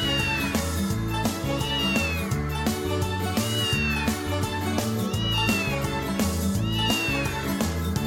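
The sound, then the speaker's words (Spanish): A child's voice mimics a cat, giving a few rising and falling meows at a steady pace over a loud, bouncy musical backing that plays throughout. “que nos va a contar cómo hacen los gatos del tío José. ¿Cómo hacen los gatos, …?”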